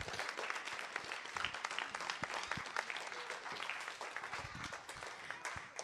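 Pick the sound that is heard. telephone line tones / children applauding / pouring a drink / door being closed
children applauding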